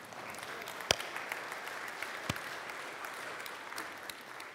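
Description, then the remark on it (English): A Presbyterian audience claps together in a steady, dense wash of applause, with a couple of sharper, louder claps standing out. No one speaks over it. “Now, I know we're Presbyterians, but we could clap at that.”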